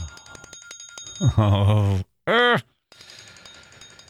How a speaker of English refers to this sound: There is our timer telling us our time is done, almost done today.